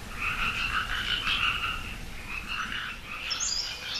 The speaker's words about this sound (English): And then the frogs, the amphibians, and the reptiles come in to join the chorus, and they join the chorus about January after the first rains, and they're really loud.